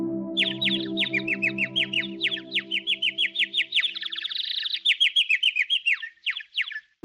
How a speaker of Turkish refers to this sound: 3. gün bir ağacın dalında bembeyaz bir kuş görmüşler. Kuş onlara güzel sesiyle şarkılar söylemiş.